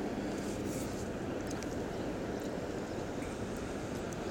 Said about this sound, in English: Got a train coming in on the road tracks on one side and the traffic coming in on the highway on the other.